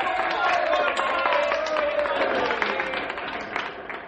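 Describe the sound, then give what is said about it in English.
An audience applauds steadily as nominees for mayor are announced, a dense wash of clapping that holds for about four seconds, with some crowd voices mixed in, then eases slightly toward the end. “Now that the two top candidates have been named, please wait until I finish naming the other young people before applauding.”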